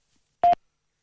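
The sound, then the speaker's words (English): A single short telephone keypad beep from a phone that doesn't work, loud and steady for a fraction of a second, then silence, with no voices around it. “This stupid phone.”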